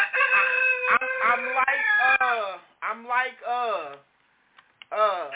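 A rooster crows loudly in long, drawn-out calls, followed by shorter warbling crows, with a brief pause before another crow begins.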